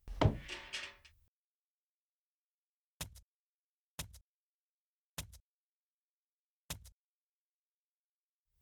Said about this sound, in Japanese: 檻の中に入ります。第一ドアのロックを解除。第一ドアをロック。第二ドアのロックを解除。第二ドアをロック。